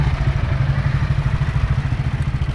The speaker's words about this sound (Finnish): Ja nyt lähtee käyntiin Kekkosen Cadillac. Useampi litra Uluvoa meinaa, tai ei Uluvoa, vaan rytisee jo. Se on varmaan 6-7 litraa. Muitten autojen ääni vähän tässä sekoittuu, ja moottoripyörien ääni.